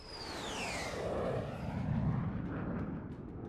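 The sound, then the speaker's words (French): An Avro CF-105 Arrow jet fighter roars past, its high whine sliding downward as it passes, leaving a loud, steady rumble that fades slightly over a few seconds. No voices. “Le CF-105 Arrow d'Avro, l'avion de chasse le plus performant au monde.”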